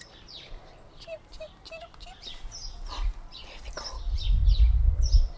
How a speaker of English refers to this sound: Can you hear the birds?